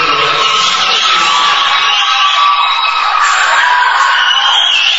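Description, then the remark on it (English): A basketball crowd screams and shouts as a free throw goes in: high-pitched voices and whoops blending into a dense, loud, sustained roar that holds steady for several seconds without easing off. “Heard a lot of screams and shouts when the free throw went in.”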